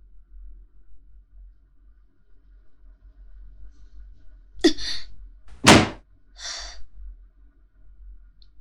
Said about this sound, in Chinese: 很好，摔门。